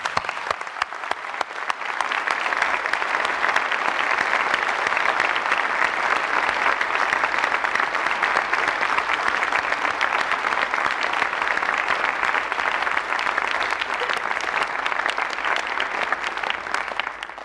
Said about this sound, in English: I invite the audience to give all of our graduates a round of applause.